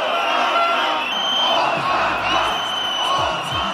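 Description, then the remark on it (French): A large protest crowd packing Parliament Square cheers and shouts in a dense, continuous roar, loud, with scattered whoops rising above the steady wall of voices for the whole stretch. “Jour après jour, la place du Parlement peine à contenir la foule tandis que des centaines de personnes restent bloquées dans les bouches de métro.”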